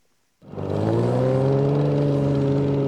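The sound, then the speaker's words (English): A loud race car engine roars to life after a brief silence during ice racing on frozen Bass Lake, central Minnesota, on a half-mile oval ice track on a cold Sunday afternoon. It then holds a steady, rumbling drone with rising harmonic tones, continuous with no talking. “Some of the race cars rumbling on the ice of Bass Lake are dented and dirty.”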